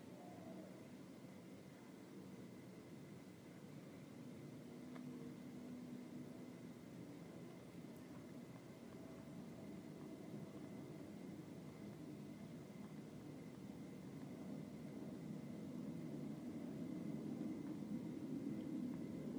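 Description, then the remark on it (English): A steady, low airplane drone overhead, fairly faint, swelling gradually louder over about twenty seconds. There is no talking, just the continuous rumble and a faint whine. “Hear the plane going overhead.”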